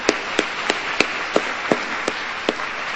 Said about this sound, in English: And let's give them a round of applause for what they've done to bring this together.